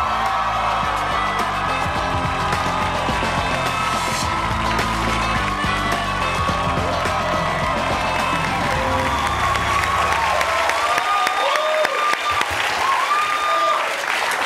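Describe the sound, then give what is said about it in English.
The Daily Show studio audience erupts in loud, sustained applause with cheering and high-pitched screams as actor Lakeith Stanfield is welcomed, a dense roar of clapping and shrieks that continues without pause throughout, while some talk is faintly mixed in. “The pitches of the screams are not usually that high, although I feel you're used to that.”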